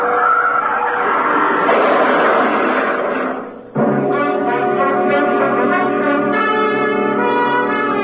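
A car doing about 60 near a toll gate has its brakes slammed on hard, and the tires screech in a long, rough skid for a few seconds. A brief gap follows, then a loud, sustained ringing chord. Nobody speaks.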